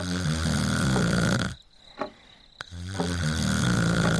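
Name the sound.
loud snoring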